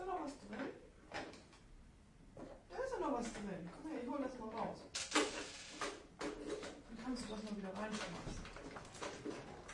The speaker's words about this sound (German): Die Tür, die ist immer so laut, weißt du? Das ist so eine blöde Tür. Die muss man immer so bumm knallen.